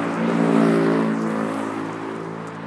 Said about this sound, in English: We should have noise limiters on motorcycles. It's amazing, as every other kind of vehicle gets quieter, it seems that motorcycles get louder.